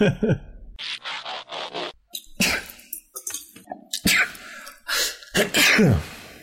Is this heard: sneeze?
yes